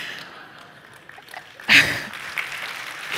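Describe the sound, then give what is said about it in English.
An audience breaks into applause after a Bible reading, a dense patter of many hands clapping that swells suddenly and then carries on at a steady level. “At this point, some of you are clapping.”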